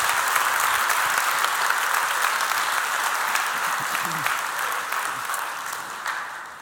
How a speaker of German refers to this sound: Nochmal Applaus.